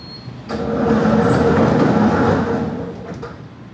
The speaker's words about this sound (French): La porte s'ouvre, laisse passer la voiture du ministre. Et la porte se referme.